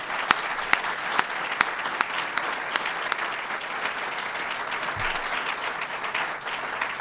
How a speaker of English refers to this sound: I'm …, the president of Cornell University, and we're very, very honored to have Governor Andrew Cuomo with us here today. One more round of applause for the governor.